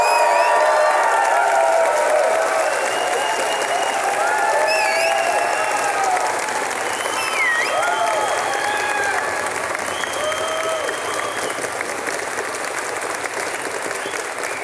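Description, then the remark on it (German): A crowd breaks into sustained applause for Gerd Ganteföhr's Big Bang entry, measured at a maximum of 108 decibels. The clapping is dense and steady for the whole stretch, with a few cheers and whoops rising over it. “Und auch hier bitte ich Sie um Ihren Applaus.”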